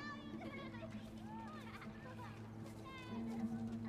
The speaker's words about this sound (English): He points out the window to the kids playing.